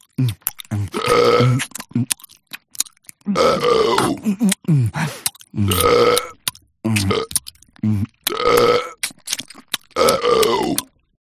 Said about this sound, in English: Terry chewed and burped. And burped and chewed.